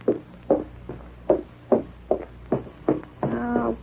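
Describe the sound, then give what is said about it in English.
About eight steady, evenly spaced knocks on a door, roughly two per second, dull and solid, with a brief voice starting up right at the end. “Now answer the door”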